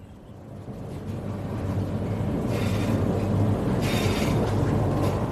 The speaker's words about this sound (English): I'm on the train north from Kuala Lumpur to the state of Perak, which has a greater proportion of older people than any other state in Malaysia. We're rattling through densely wooded land with the red roofs of small holdings just visible in amongst